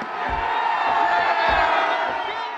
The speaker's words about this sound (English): It's a pretty large statue, a little more than 11 feet tall. And as it topples to the ground, the crowd goes wild.